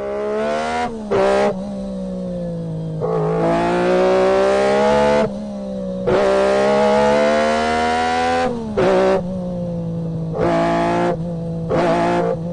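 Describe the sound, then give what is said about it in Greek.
A small Austin Metro car engine revs repeatedly, its pitch climbing and dropping in a series of throttle blips and longer revs, loud with no talking. “Ποιο θα πεις? Το Austin, το μετρό.”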